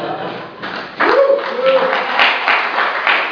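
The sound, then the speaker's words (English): A crowd applauding steadily, a dense wash of clapping that swells after the first second, with scattered voices and a brief cheer mixed in. “So I want to say that I don't have much time to hold the applause, please.”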